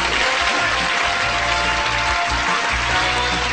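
A crowd applauds steadily, led by a group of senior citizens from Novato, California, a dense wash of many hands clapping at an even, loud level throughout with no voices rising above it.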